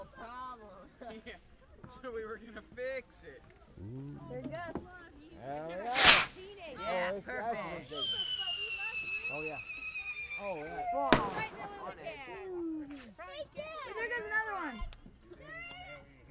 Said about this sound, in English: Just fireworks going on. Just the usual fireworks, huh?